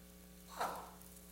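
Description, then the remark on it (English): A single soft, papery swish of Bible pages being flipped to Psalm 32, brief and fairly quiet, over a steady low electrical hum with no talking. “Flipping with you. Psalm 32.”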